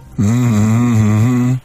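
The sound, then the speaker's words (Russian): A person hums a song with closed lips, holding one steady low note for about a second and a half, fairly loud, with no talking. “Ты сразу песню решил мычать?”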